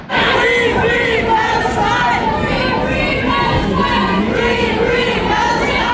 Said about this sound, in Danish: da statsminister Mette Fredriksen skulle holde tale, var det umulig å høre henne gjennom ropene «Free Palestine, Free Palestine».